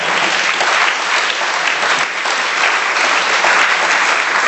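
Sustained audience applause, a dense, steady wash of many hands clapping at an even loudness for several seconds, with no voices standing out, as a final round of applause for a speaker after the question session.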